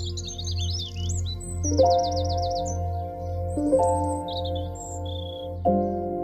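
Birds sing steadily on an allotment with no traffic noise, with quick repeated trills and bright chirps overlapping, while a sustained low tonal drone runs underneath and shifts pitch every couple of seconds.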